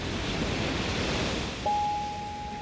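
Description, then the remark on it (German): A steady, rushing roar of sea surf fills the whole stretch with no speech, and partway through a thin, steady high tone starts and holds to the end. “Also denen ging es da im Grunde richtig gut und dann kommt irgendwann das Meer.”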